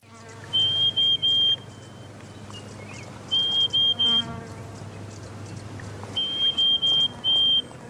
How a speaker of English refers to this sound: It is the pied honeyeater. As the name suggests, it's a black and white nectarvore.